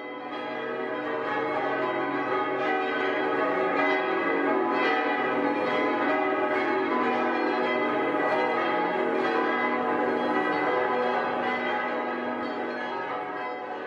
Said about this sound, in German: Und Freitag um 15 Uhr zur Sterbestunde Christi läutet die Heinrichsglocke.